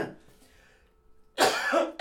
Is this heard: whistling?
no